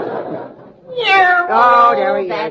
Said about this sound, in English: Oh, there he is. That cat. Junior, put the cat outside.